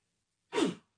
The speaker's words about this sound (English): Gesundheit.